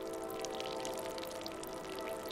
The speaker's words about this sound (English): A train passes in the distance, but it's quiet in the J.Q. Dickinson Sunhouse, except for the sack of salt dripping dry.